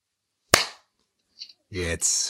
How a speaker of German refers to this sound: Darf ich nochmal kurz klatschen? Nee. Weil das hat bei mir, für mich nicht aufgenommen.